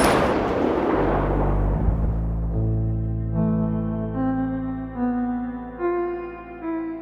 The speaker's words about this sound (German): So ein Schuss im Dunkeln. Ja. Gibt's auch.